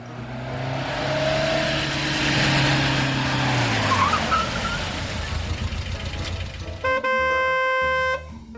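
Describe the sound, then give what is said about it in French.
A car driven by a mother with its window open speeds in at full speed with a loud, roaring engine whose pitch slides as it races up, with rushing tire noise, then a sustained horn blast near the end. “Maman arrive à toute berzingue. Fenêtre ouverte et couette au vent.”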